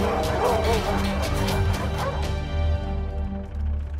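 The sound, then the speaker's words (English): Several dogs bark and yip in a busy, overlapping flurry, loud, with quick sharp yelps over a steady low rumble, tapering slightly toward the end. “If you've seen the movie, it's really hard to imagine these sweet dogs playing tough.”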